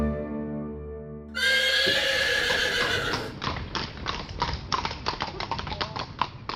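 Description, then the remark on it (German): After a brief tonal lead-in, a horse gives a loud whinny, followed by hooves clip-clopping in a steady, even rhythm for several seconds. “Auf dem Pferd.”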